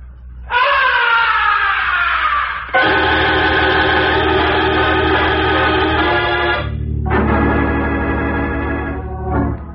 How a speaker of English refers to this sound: From way up in the heights of the stage, the opera house was pierced with a blood-curdling scream. That was no ordinary scream. It was a scream of death.